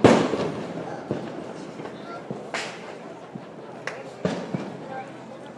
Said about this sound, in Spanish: Y eso que habéis oído que parece una palmada es un disparo que no ha llegado a estallar la pólvora.